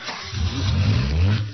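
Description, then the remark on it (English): A car engine turns over and revs up on a very cold night, a deep, steady rumble that rises and swells, fairly loud, with no voices. “I brought my car. We're safe.”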